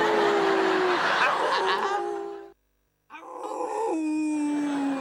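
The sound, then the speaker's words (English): A person howls like a dog, two long drawn-out vocal wails with gliding pitch separated by a brief pause, loud. “Come on, dog. Howl with me.”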